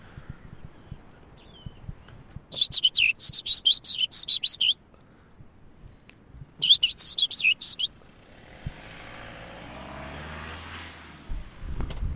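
Two bursts of rapid, high-pitched chirping from small songbirds, each lasting about two seconds with a pause between, followed by a low rumbling hiss like a passing engine.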